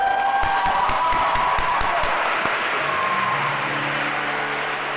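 A large crowd gathered in a big church in Kraszewice applauds steadily, a dense wash of clapping with scattered cheers and whistles rising over it, loud and continuous throughout with no speech.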